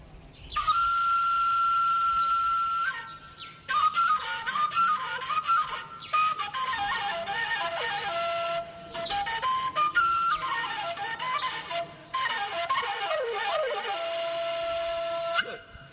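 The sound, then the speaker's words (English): A breathy four-hole pentatonic shepherd's flute called the wombere, played by a shepherd, plays alone, opening with a long held high note, then rippling, trilling phrases that slide up and down, with a few brief breaks between passages. “Donc, je vais vous présenter, on appelle ça le wombere. C'est une flûte à pentatonique, quatre trous.”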